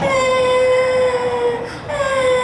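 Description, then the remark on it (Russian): A girl wails loudly in one long, high, sustained cry that breaks off briefly near the end before the wailing picks up again, after a minor burn from something hot. “Ну, солнышко, не плачь. Все хорошо. Ты же не обожглась сильно.”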